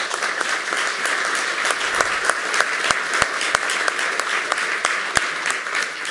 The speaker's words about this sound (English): A round of applause for the audio angels.